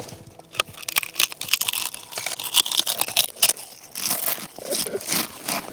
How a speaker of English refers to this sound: And right near it is a hollow sycamore tree that they have named the Pringle tree. Hey, pass me a Pringle, Pringle. All right. We are in the Pringle tree, and we are eating... Pringles.